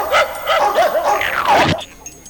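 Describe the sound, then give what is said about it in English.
Several small dogs bark and yip excitedly in quick, overlapping, loud bursts for about two seconds before cutting off abruptly into near silence. “Goo dogs! Goo dogs!”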